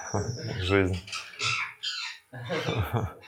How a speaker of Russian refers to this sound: Это попугайчики за окном. Это попугайчики, это Вриндаун.